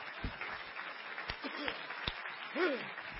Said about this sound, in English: Somebody clap your hands and love Him right now.